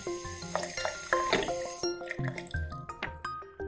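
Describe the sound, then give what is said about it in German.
Water runs from a tap with a steady hiss for a couple of seconds, mixed with bright plinking, dripping tones that carry on after the flow stops. There is no talking. “Denn es ist ein echter Schatz, der da aus der Tiefe kommt und so selbstverständlich aus dem Hahn strömt.”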